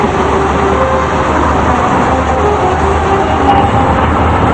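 A train rolls steadily along the rails with a loud, continuous rumble and faint metallic whines layered on top, unbroken throughout, with no voices.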